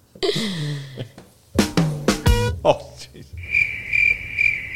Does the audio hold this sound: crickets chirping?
yes